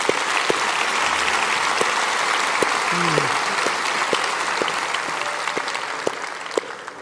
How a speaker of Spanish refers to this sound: Aplauda fuerte a su Señor.